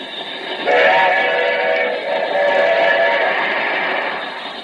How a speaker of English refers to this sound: Be on the lookout for a runaway locomotive, just torn loose from the railroad exhibit at the World's Fair. It is now believed to be on the New York Central tracks, heading north toward Albany. No engineer is in the cab.